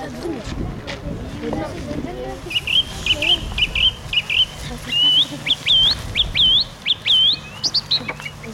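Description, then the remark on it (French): A song thrush sings clear, whistled phrases, repeating each short motif two or three times before switching to a new one, over faint outdoor background noise and low murmuring. “Vous voyez, la grue musicienne, elle répète des motifs comme ça. Elle répète un motif deux, trois fois, puis elle change de motif, puis elle change encore de motif, puis elle change encore de motif.”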